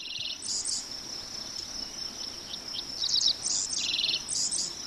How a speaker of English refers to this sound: These real Dick Sissels, field sparrows, and common yellowthroats fly over Seth Watkins' farm in the hills of southwest Iowa.